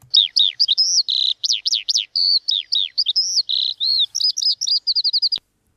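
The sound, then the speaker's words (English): A skylark's song pours out in a rapid, continuous stream of high, warbling chirps and trills, bright, ending in a quick run of repeated notes with no voices. “Yeah, well, it's the lark, The lark.”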